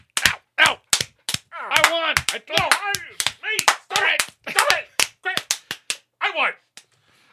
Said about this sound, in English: Wait. I think there's only one way to settle this. Yeah. With the good old-fashioned slap fight. All right. Are you ready? Here we go. One, two, ready, go.